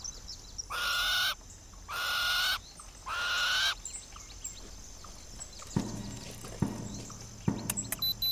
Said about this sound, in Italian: Senti come cinguettano gli uccellini.